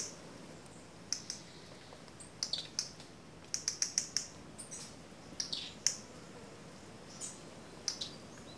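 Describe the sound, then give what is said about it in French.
Birds chirp in short, scattered bursts of high, bright tweets, some in quick clusters, coming nearer to a person keeping still, over a soft, steady outdoor background hush with no talking. “Et comme je bouge pas trop, les oiseaux se rapprochent.”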